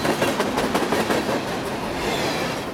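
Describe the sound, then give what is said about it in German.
A train rumbles steadily along the rails, its wheels clacking in a quick repeating rhythm over a dense, continuous roar, loud with no voices. “Nach kurzer Überlegung beschließt sie, zum Bahnhof zu gehen und in einen Zug zu steigen”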